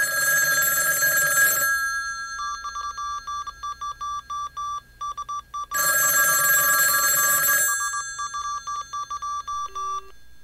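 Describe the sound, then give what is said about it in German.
An old telephone bell rings loudly in two long bursts, separated by a stretch of steady, pulsing beeps like a line or dial tone, with no voices present. “Genau gestern vor 90 Jahren ging der erste Ruf von Deutschland nach Amerika in die Funkgeschichte ein.”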